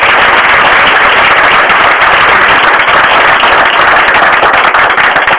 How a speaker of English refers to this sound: Maybe you'd give those people a round of applause.